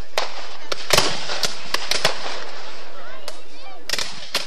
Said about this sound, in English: Next month is the 150th anniversary of the Battle of Selma during the Civil War. This is the 2013 reenactment of the campaign. Civil War buffs in full costume fire blanks at each other to recreate the fight